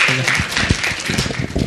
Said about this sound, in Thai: โอเคแล้วก็ต้องที่สำคัญสุดคือต้องขอบคุณอาจารย์ตู่ด้วยนะครับขอเสียงปรบมือให้อาจารย์ตู่อีกครั้งครับ